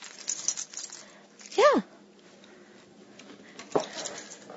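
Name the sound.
excited dog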